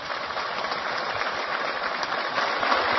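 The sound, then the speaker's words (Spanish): A crowd applauds steadily for a few seconds at an event inaugurating houses, a dense, even wash of many hands clapping at once, fairly loud and unbroken, with no voices over it. “Japeo merece otro aplauso.”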